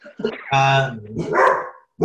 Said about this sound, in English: Whoops. Well, I hear a dog.